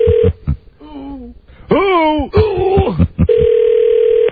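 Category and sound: signal or alarm, telephone call ringing unanswered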